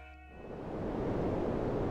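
A brief tonal, horn-like note fades into a steady wash of white noise static that swells up and hisses on evenly to the end, with no voices.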